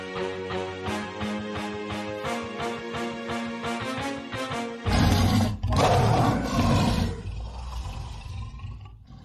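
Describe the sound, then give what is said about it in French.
A short award segment jingle of rapid, pulsing notes, then a loud lion roar that rumbles for a few seconds before fading away. No one speaks. “Lion d'or sur cette énorme semaine. Attendez, je vais retrouver Jingle.”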